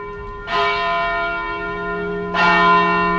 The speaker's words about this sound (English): In West Warwick, Rhode Island, the bells of St. John the Baptist Catholic Church called parishioners to early Mass this morning